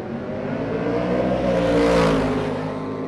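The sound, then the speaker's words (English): A loud, throaty engine of an American muscle car roars steadily and swells in pitch and volume over a few seconds, accelerating hard past while racing head-to-head down a quarter-mile drag strip at Milan Dragway, south of Detroit. “South of Detroit at the Milan Dragway, pairs of American muscle cars are racing down a quarter-mile strip as local car enthusiasts vie for a spot in an MTV reality show.”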